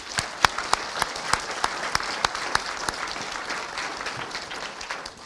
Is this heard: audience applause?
yes